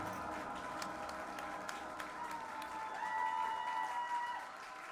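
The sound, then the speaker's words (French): A concert audience in Colmar applauds in a steady, dense wash of clapping that holds for several seconds, with a few whistles and cheers rising above it near the end. “Applaudissez-vous, vous le méritez.”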